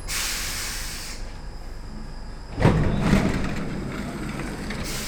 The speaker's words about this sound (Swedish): Ja, och då var vi på tunnelbanan igen. Det är lite spännande för att det är en helt ny vagn med samma reklam. Ja, det är precis samma reklam faktiskt.